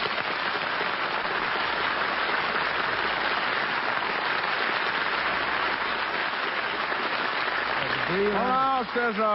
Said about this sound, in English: Just a minute there, Crosby. That was a very nice introduction, and I sure got a kick out of everybody applauding.